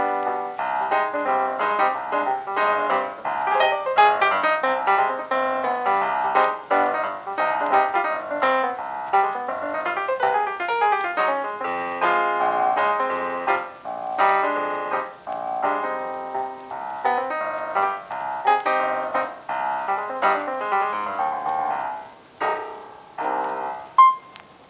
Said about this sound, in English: Well, let's turn it over now to the soothing end credits of … and spoiler duck.